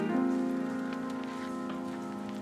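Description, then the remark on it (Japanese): Steady rain patters on a hard surface in a city on a rainy holiday, with scattered drops ticking over a sustained, humming musical tone that holds evenly throughout; no one speaks. “雨の休日が好きだ。”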